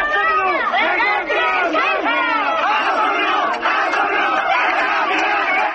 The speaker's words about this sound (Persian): مراسم خاکسپاری پیمان گلبانی زندانی سیاسی کرد روز دوشنبه 19 تیر ماه با حضور جمعیت چشمگیری در شهر مهاباد برگزار شد. جمعیتی که شعار می‌دادند که کاک پیمان قهرمان است، شهید کردستان است.